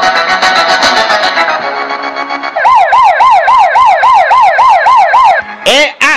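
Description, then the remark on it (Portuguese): A police car siren wails loudly, rising and falling in quick regular sweeps after a noisy opening burst, then breaking into a couple of short yelps at the end. “Quem roubou o camburão, o carro da polícia, ninguém sabe, ninguém viu.”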